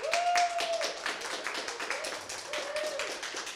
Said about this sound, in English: And how about a round of applause from folks here for these guys?